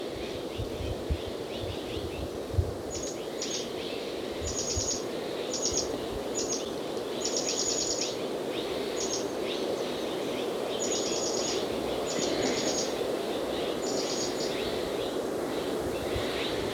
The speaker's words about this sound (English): The Mexican jays are still carrying on behind them.